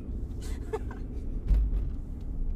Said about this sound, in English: Hey everyone, welcome to the black hole car. We're in a car.